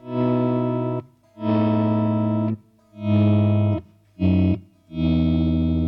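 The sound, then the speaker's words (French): Electric guitar chords fade in with a volume swell, five sustained chords in a slow sequence, each rising smoothly from silence, washed in chorus, delay and reverb, with a slightly distorted, effected tone. “Avec un effet ascendant plutôt cool, alors vous rajoutez du chorus, du delay et de la reverb, et ça devient quelque chose de plutôt classe.”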